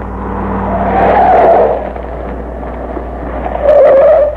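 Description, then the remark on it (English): A Bureau car's engine rumbles as tires let out two sharp skidding squeals, one early and a louder one near the end, as the vehicle pulls up and stops to pick up passengers. “Told the Bureau to have this car ready to pick us up instantly after the truck left.”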